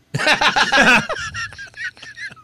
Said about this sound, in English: That's his sneeze. Sounds like a cough. I know, because when he did it, I didn't know what to do. I was like, am I supposed to say Gesundheit, or you got something in your throat?